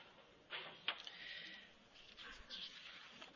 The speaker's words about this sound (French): Ben, je m'aperçois que j'ai des problèmes d'imprimante.